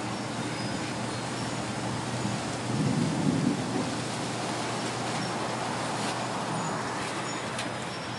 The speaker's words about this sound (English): Because when it's cold, rain makes it colder. When it's hot, rain makes it cooler. So it's like flipping on a natural swamp cooler.